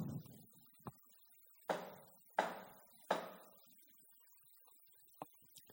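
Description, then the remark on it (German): A hand knocks three firm times on a wooden door in an even, unhurried rhythm, with a couple of faint small taps before and after. “Klopfen an der Tür. Dreimal schlägt die Hand auf das Holz.”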